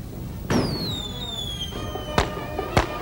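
Firecrackers go off outside at a street parade, set off by people in the procession: a pop launches a long descending whistle, followed by two sharp, loud cracks, with a steady murmur of background noise throughout.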